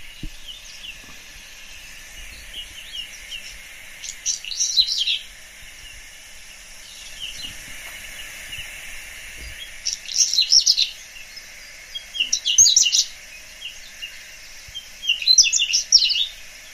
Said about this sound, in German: Und jetzt lasse ich mal das Braunkehlchen singen. Das haben wir noch nicht gemacht, ja. Das würde ich gerne allen nicht vorenthalten. Es ist nämlich wirklich, finde ich, ein sehr schöner Gesang.